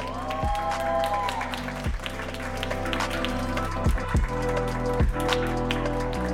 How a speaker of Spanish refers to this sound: Adelante, por favor, un aplauso